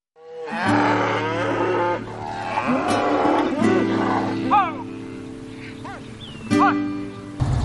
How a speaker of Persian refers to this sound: اه به چه گاوای خوشگلی، ببین چقدر آرومن.